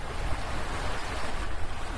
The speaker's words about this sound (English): In this case, it's probably because my recording device could start to hear the rushing rapids of the Rouge River with better clarity.